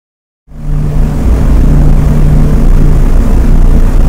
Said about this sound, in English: and the men all got inside their plane and prepared for takeoff.